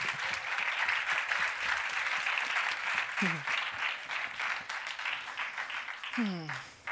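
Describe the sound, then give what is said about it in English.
An audience at Dub Station claps steadily for several seconds to welcome a performer to the stage, a dense, even wash of applause that starts to thin near the end, with a voice briefly cutting through twice. “And please welcome her with a big round of applause.”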